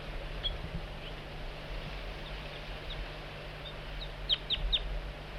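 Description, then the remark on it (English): Soft, high flight calls of bird 4-3 coaxing a juvenile in: faint scattered chips early on, then a brief cluster of three or four sharper notes near the end, over a steady low hum with no talking. “Bird 4-3 coaxing the juvenile in with soft flight call.”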